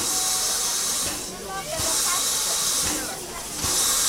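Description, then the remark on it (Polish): A train at a station lets off a loud, steady hiss of steam that eases off briefly twice before surging back, with faint voices murmuring underneath. “na szczęście pociąg się spóźnił i mogliśmy zobaczyć, jak dojeżdża tutaj na miejsce i odjeżdża też.”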